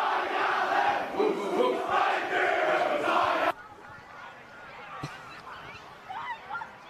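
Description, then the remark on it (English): The Grovedale team celebrating in their change rooms after a game, a loud burst of many voices shouting together for about three seconds, then cutting off abruptly to quieter scattered chatter with a sharp knock. “whether we can just get some sounds out of the Grovedale rooms and maybe the song coming over the airwaves”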